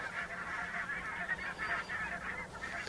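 A flock of geese honking continuously, many overlapping calls forming a dense, clamorous chorus, with no speech.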